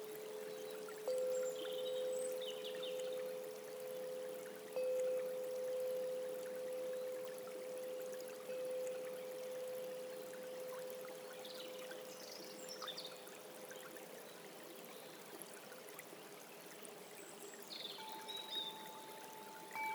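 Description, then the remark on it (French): A steady rush of flowing river water fills the scene, broad and continuous at moderate loudness, with faint tones of Japanese Koshi chimes ringing over it and occasional brief bird chirps. “Restons avec la sensation de respirer dans cette atmosphère paisible, accompagnée par les carillons japonais Koshi et les sons de la rivière.”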